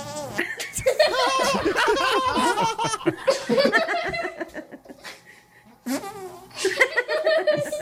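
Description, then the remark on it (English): A child in pajamas makes a string of wet, squelchy armpit fart noises mixed with laughter, fairly loud, pausing briefly before another burst of squelching and giggles. “He was doing it with his armpit.”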